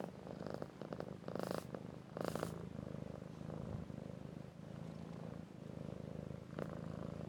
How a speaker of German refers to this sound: Und zwar habe ich meine Katze beim Schnurren aufgenommen. Und das spiele ich jetzt auch noch schnell ein.